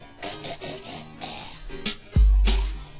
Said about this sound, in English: clear my throat?